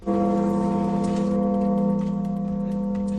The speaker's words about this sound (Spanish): Así suenan, por ejemplo, las campanadas en el mítico Micalet de Valencia.